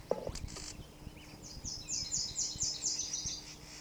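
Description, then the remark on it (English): A Solitary Vireo gives a harsh, rapid scolding chatter, a quick run of raspy notes repeated over a couple of seconds, fairly close, with a brief burst just before it and faint background hum. “Solitary Vireo number 6.”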